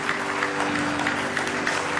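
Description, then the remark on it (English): A crowd claps hands together in praise: steady, dense applause, many hands striking at once in continuous loud clapping, with a faint hum running underneath. “Give him a good hand clap of praise.”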